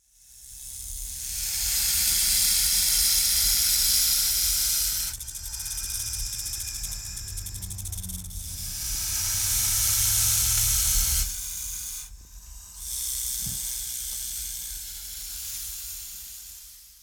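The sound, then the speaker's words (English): A snake hisses in long, loud, breathy bursts, several drawn-out hisses with short pauses between them, with no one talking. “It's a snake.”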